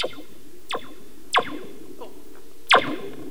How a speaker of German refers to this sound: wenn man auf die Feder klopft, klingt es länger